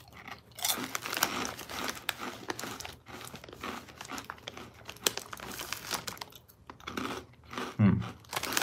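Crunchy chewing of Bugles Cinnamon Toast Crunch corn snack chips made from degermed yellow cornmeal and blasted with Cinnadust, a steady run of crackly bites and munching over several seconds, with crinkly rustling mixed in and no talking.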